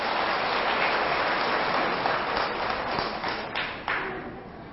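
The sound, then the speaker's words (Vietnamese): A crowd at a Buddhist temple bursts into sustained applause, a dense wash of many hands clapping at once, steady and fairly loud before gradually thinning and fading toward the end. “98% là cho một tràng vỗ tay thật lớn.”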